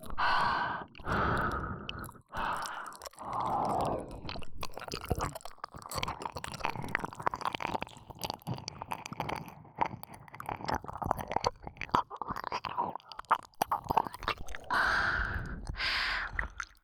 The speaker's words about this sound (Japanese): 私の吐息、耳にかかるの気持ちいいんでしょ。もっと吹きかけて、頭の中、トロトロにしてあげる。